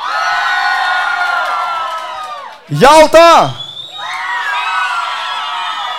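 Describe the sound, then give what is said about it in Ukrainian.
A large concert crowd shouts and cheers loudly to pick its favourite song, pauses briefly while a man calls out a single song title over a loudspeaker, then erupts into sustained shouting again. “Я кажу пісню, і я чую. Якщо ви кричите, значить управляємо.”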